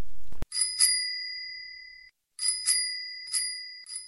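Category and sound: vehicle, bicycle bell ringing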